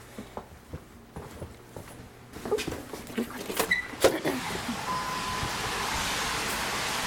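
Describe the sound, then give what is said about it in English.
Scattered drips and taps at first, then a few louder knocks and clatters, giving way to a steady hiss of rain pattering down without pause. “We have to see who'll come out because of the rain. I think everyone wants to stay indoors dry.”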